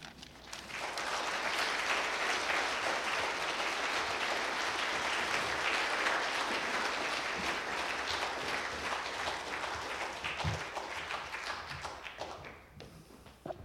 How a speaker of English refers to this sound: I've never been applauded after I speak, so you should take that in.